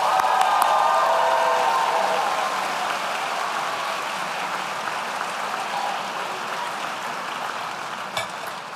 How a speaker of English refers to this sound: So please join me in a round of applause for our Master in Health Administration graduates.